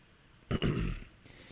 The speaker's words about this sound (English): I'm trying to stop my own hiccups.